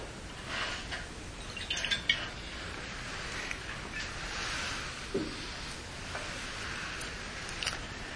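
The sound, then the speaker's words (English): Water saved from last year is poured steadily into a bowl, a soft continuous trickle and splash with a few brief drips and clinks, fairly quiet, with no one speaking. “So this is water from last year, but there are molecules in there from every year before since we started the process.”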